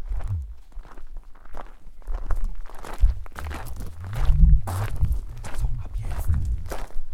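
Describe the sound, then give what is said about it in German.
Soft, careful footsteps walk at a steady pace down a corridor, each step a muffled low thud, with faint murmuring voices now and then in the background. “Da müssen wir total leise Schritte machen, weil die schlafen ja alle.”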